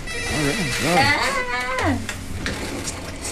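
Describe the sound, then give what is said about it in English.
A phone ringtone for an incoming call plays a short sliding, wavering melody for about two seconds, fairly loud, then gives way to low background noise. “Oh, somebody's calling in.”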